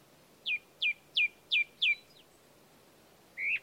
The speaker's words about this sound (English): I looked up into the branches above me. I couldn't see the thrush, but that's what it sounded like.